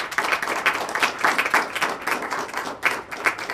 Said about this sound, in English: So give yourselves a round of applause for being here tonight. Thank you.